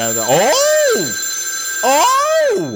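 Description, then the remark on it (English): A telephone rings twice in loud, warbling bursts, each sweeping up and then down in pitch, with a short pause between them and no talking. “Big Fatty, you know I don't like that phone.”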